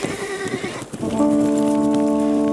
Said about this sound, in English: The Normans ran for their horses to give pursuit, as the two men galloped off into the safety of the trees.